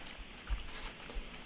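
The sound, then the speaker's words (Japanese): Soft chewing of homemade roast pork from the Nishiyama meat shop, served with extra sauce, a quiet wet mastication with a couple of slightly firmer bites, heard alone without any talking. “この焼き豚めちゃくちゃ美味しいよ。”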